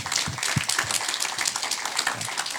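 A crowd applauds steadily, dense overlapping claps forming a bright, crackling wash that holds an even loudness throughout without fading.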